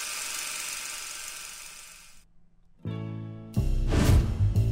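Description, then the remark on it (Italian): A projector motor whirs: a steady hiss fades, then a buzzing mechanical hum kicks in and grows louder and denser, with no voices. “Il proiettore, per favore, grazie.”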